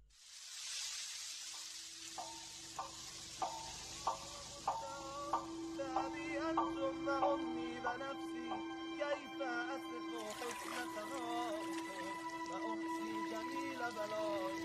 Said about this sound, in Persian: ترنم باران را با هم مشنویم.